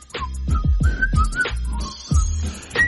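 Someone whistles a bright, wavering melody along to backing music with a thumping, steady beat during the Andy Griffin Show on News Radio 890, 92.5 KDXU in Southern Utah; the whistle sits clearly on top, fairly loud, with no talking.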